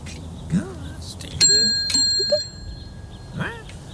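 bicycle bell ringing

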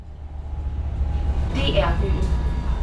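train ride ambience

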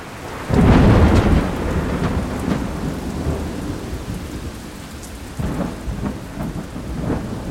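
heavy pouring rain

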